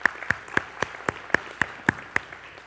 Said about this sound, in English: Let's give him a big hand clap offering right now. Amen.